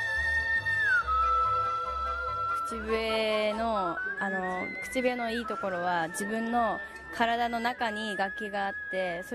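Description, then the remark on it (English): A 14-year-old girl, a competitive whistler, whistles a clear, sustained note that slides down in pitch, followed by a run of warbling, wavering tones with a voice-like quality, fairly loud. “says that although she's always whistled at home while washing the dishes, she's been a competitive whistler for less than a year.”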